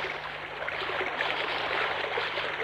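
A fast-flowing stream, swollen from a recent downpour, rushes steadily, a dense, bright wash of churning water that stays loud throughout, with no voices.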